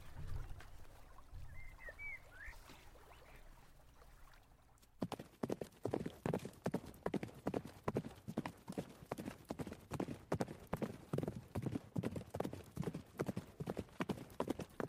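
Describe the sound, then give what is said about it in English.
Horse hooves clip-clop in a steady, brisk rhythm, fairly loud, starting abruptly after a few seconds of quiet outdoor ambience with a brief bird chirp. “Help me lift him up onto this horse.”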